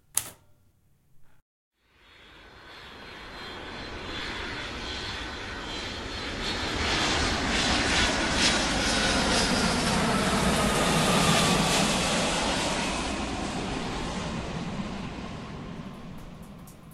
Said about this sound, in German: Verschlafen machte ein jugendliches Mädchen auf, als das Flugzeug, in welchem sie sich befand, gelandet war.